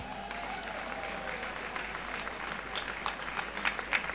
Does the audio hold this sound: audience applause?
yes